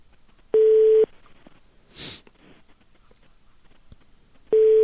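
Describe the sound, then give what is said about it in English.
A telephone line ringing heard through the earpiece: two steady electronic ring tones, one early and one at the end, separated by a long quiet gap with a brief breathy rustle. “Weird, it's just ringing.”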